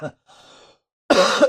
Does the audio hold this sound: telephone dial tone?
no